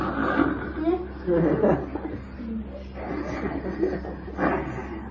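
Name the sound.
person imitating snoring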